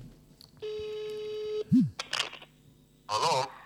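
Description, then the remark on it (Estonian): Telephone dialing tones as a phone call is placed for a Hea Sõnumi Raadio broadcast: a steady electronic tone holds for about a second, then short bleeps and clicks follow, ending in a brief burst of crackly line noise, with no talking. “Ja proovime telefoni teel teha.”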